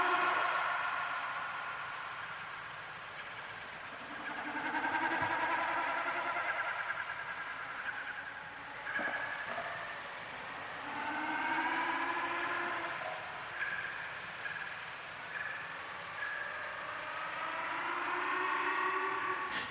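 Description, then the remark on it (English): Snipe display drumming, made by the vibration of the birds' feathers: a series of wavering, hollow humming bleats, each swelling and fading over two or three seconds, repeated about five times against a faint steady background with no voices. “I think it's used, I might be wrong, I'm sure some listeners will tell me if I'm wrong, but when the birds are displaying, they create this sound, and there's something just weird and magical about it.”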